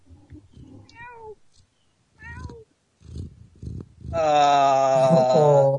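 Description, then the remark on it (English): A cat on a bed meows: two short falling meows, then after a brief pause a long, loud, drawn-out meow that carries to the end. “I'll see if I can give us another cat moment.”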